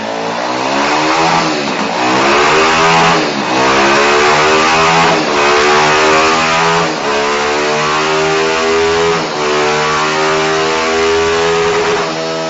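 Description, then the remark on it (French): A loud engine revs up steadily during a dynamometer power test, its pitch climbing again and again with brief drops between, like shifting through gears under hard acceleration, reaching 120 km/h in fourth gear. It drones continuously, with no voices. “Donc là, l'écran de l'ordinateur nous indique en live la vitesse kilométrique et le régime du moteur.”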